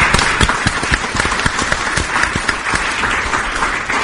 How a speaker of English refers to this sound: So if you would join me in giving a hearty round of applause to this year's winners.